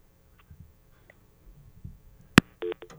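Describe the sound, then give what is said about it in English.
A couple of short telephone keypad tones beep one after another as a caller to the radio show Shooter's Corner punches a button on the phone, preceded by a sharp click, with faint background shuffling and no talking. “Go ahead. Punch a button.”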